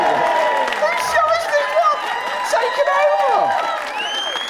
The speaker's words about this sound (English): Big cheer for Matt Ford, everybody!